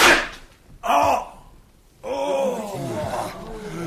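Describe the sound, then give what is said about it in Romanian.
In a Winnetou story, Rattler fires at Winnetou. A sharp gunshot cracks at the very start and rings off briefly. It is followed by a gasp and then a long, pained groan from Klekih-Petra, who shielded Winnetou and is hit. “Crezi că l-am pușcat mortal?”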